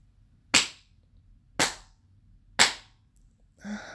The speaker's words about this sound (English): You start by spanking me slow. Slow and deliberate slaps.